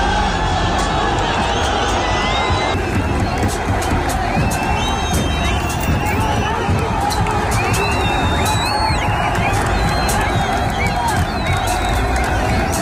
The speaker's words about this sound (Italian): la folla in piazza ha giustamente festeggiato.